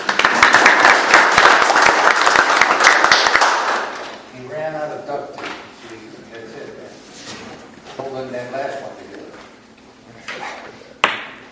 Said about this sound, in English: So, yeah, I mean, he's been with the city for a long time, served us well, I believe. So, in round of applause for his retirement, even though he's not here to hear it.